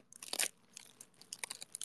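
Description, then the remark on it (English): Crisp, wet crunching of one raw lettuce being chewed during a lettuce-eating ASMR endurance stream: one loud bite early on, followed by a quicker run of softer, irregular crunches, with no talking. “How many lettuce? I just have one.”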